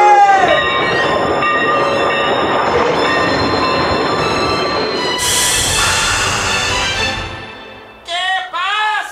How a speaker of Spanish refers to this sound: Cuando vio que el ferrocarril se aproximaba, tomó un periódico, lo encendió como antorcha y empezó a hacer señales en medio de la vía. ¡Alto! ¡Alto! ¡Detengan ese tren!